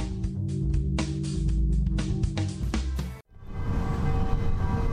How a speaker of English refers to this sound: Oh, I like that bell in the background.